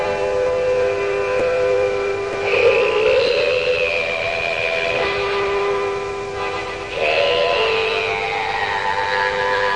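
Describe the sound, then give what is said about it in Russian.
An accordion plays a slow introduction of sustained, reedy chords that swell twice in loudness, the tones held steadily throughout with no voices. “Он играет на аккордеоне вступление.”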